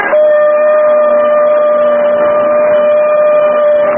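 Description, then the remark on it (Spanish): A hand-held horn blown hard by a man blares one long, steady, piercing note with bright overtones, held loud and unwavering for about four seconds without a break, echoing across a valley toward the desert. “Brotó un sonido agudo, penetrante, que se convirtió en eco a través del valle.”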